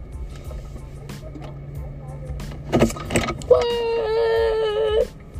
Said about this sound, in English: What? I'm at the car wash.